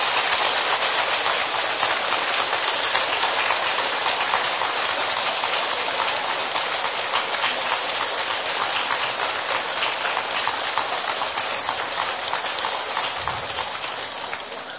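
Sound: audience applause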